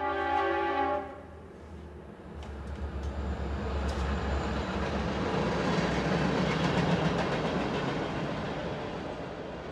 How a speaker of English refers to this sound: And there is the daily traffic of commuter and heavy freight trains out back that send tremors through the house, Luddy says. It's almost like its own mini version of tectonic plates.